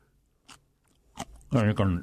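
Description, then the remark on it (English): Chewing of crunchy red cabbage fermented with salt for nine days: two short, crisp crunches with a pause between them, followed by a person speaking briefly. “Crunchy.”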